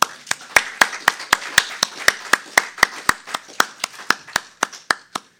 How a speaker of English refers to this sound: I would like for you all, if you will, to help me in a round of applause to our great pastor and first lady,